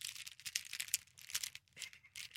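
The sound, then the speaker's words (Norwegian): Ten writing pens held in a hand rattle and click against each other in quick, irregular bursts, a dry clatter that keeps going for a couple of seconds at fairly low volume. “Det var lyden av 10 penner.”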